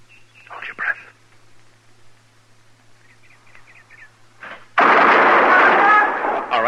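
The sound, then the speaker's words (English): After a quiet stretch with faint chirping, gunshots suddenly erupt, loud, their blast and roar filling the last couple of seconds; the shots are fired after a held breath and a count of three. “And then count to yourself. One, two, three. And then fire.”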